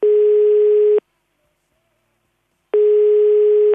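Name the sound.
telephone dial tone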